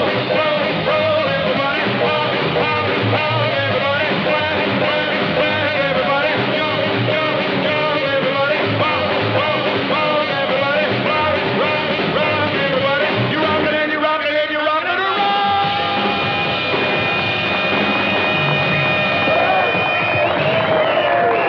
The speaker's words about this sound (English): Kids on the dance floor jump and clap.